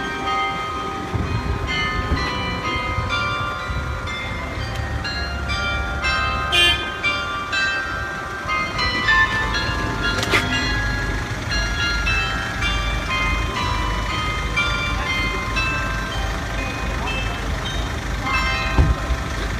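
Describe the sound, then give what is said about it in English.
Church bells in Sassenheim, Netherlands, ring out a slow melody of distinct pitched tones, carrying over a steady low rumble of background noise, with no one speaking. “And I'm going to play that recording for you right now and see if you recognize what song the church bells were playing in Sassenheim.”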